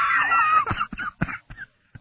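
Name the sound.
screaming sound effect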